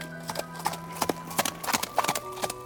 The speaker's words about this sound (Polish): jego wierny koń Hengren poczuł potężną moc tego człowieka, więc chcąc ostrzec swojego pana, zarżał i wbił kopyta w ziemię.